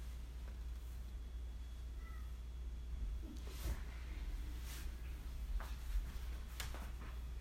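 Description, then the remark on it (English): A cat in Seattle meows a few times, faint, with short scattered cries over a steady low hum and no talking. “We took the cat to the chiropractor because This is Seattle.”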